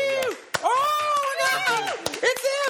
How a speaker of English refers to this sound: We don't have much of a studio audience, so I'm going to clap.